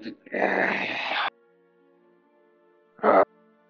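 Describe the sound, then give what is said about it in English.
A breathy, drawn-out vocal groan of a man stretching and yawning in a tent at daybreak lasts about a second, followed after a quiet pause by a short, sharp exhale. “You hear him stretch and then yawn.”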